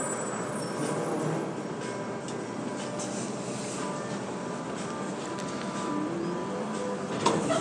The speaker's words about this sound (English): The train is arriving. Please stand clear of the doors.